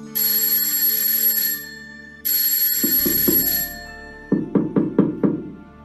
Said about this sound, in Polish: Dzieci podeszły bliżej budynku i zadzwoniły do drzwi szkoły.